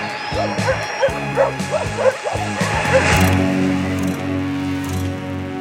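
A burst of rapid dog barks, several in quick rhythmic succession, rides over droning electronic music; after a few seconds the barking stops and the sustained synth tones continue alone.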